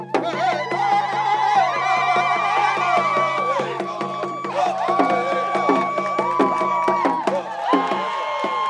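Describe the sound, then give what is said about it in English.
A dense outdoor protest crowd cheers and sings together over steady rhythmic drumming, with dancing, at the pedestal of a removed statue; high sustained voices and whoops rise above the loud, continuous din. “And there was, you know, dancing and drumming and singing.”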